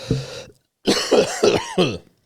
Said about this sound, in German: Ich kann original husten. Original? Es ist wichtig, dass man dann original kann. Das ist ein richtiger Husten.